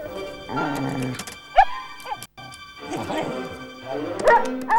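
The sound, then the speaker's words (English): A chorus of dogs all over town, including Buddy and Molly, barks and yips over one another after a knife's whistle attachment is blown, some loud, others fainter, in overlapping bursts that carry on almost without pause apart from one brief gap. “Buddy and Molly, however, leap up and look around them, as do dog after dog after dog all over town.”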